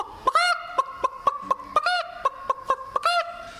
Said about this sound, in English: and then out long through the chicken house there'd come a hen proud to have laid an egg, and she'll come out of that hen house.